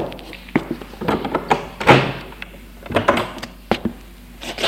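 A door being opened: a series of wooden thunks and latch clicks, with one heavier clunk partway through, then a few lighter knocks, with no voices.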